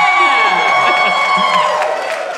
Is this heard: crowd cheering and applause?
yes